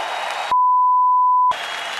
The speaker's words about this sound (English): So please give him a round of applause as our heavyweight champion of the world.